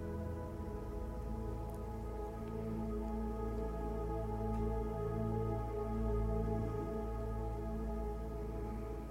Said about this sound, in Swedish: Ta nu in allt som du upplever i det här regnvädret som är. Ljuden, hur det ser ut och hur det doftar.